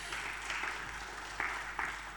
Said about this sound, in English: So well done. Well done for making it to church this morning. I think you should give yourselves a bit of a round of applause.